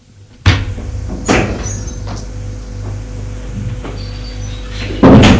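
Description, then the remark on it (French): A door opens with a sharp clunk, followed by another knock and a final louder thump at the end, all over a steady low engine-like rumble. No one speaks. “La porte s'est ouverte.”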